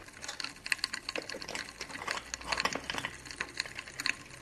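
Crackling and popping from a potassium permanganate reaction in a chemistry demonstration: a dense, irregular stream of tiny sharp snaps, like miniature thunder, continuing quietly for the whole clip with no voices.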